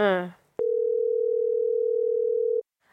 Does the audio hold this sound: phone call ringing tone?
yes